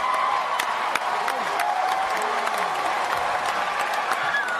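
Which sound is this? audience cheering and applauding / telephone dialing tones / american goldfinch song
audience cheering and applauding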